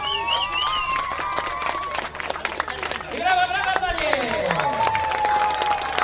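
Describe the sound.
A crowd claps and cheers steadily at the start of the 37th Bieg Słowiański running race, dense overlapping applause with raised shouting voices and whoops rising over it, lively and sustained throughout.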